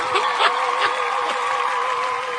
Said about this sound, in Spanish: Pues ahí está el discurso representando al pirata y su banda, del consejero delegado de Rosendo. ¡Fuerte el aplauso!